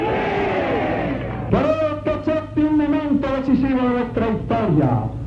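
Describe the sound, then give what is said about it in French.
A crowd shouts and roars at a rally in Havana, Cuba, the din steady and loud throughout. Fidel Castro's single raised voice cuts through in strong bursts as he speaks and asks the crowd to be quiet. “Écoutez les cris.”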